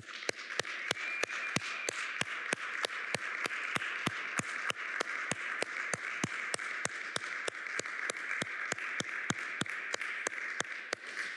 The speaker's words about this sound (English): So, as a token of the six of us here this morning, we just want to applaud you.